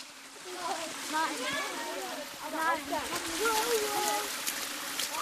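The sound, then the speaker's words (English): A steady wash of very clean running spring water, which villagers collect in containers to drink, flows continuously beneath a person talking, the watery hiss filling the background throughout. “It's very, very clean water. It's the best quality you have.”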